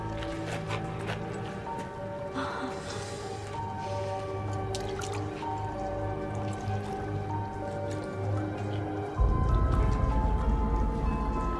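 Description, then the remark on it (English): Scattered water drips fall irregularly into a thin pool of water covering the floor of a cavern, echoing over a steady low rumble that grows heavier near the end, with soft squishing splashes underneath. “A thin pool of water covers the floor of the cavern.”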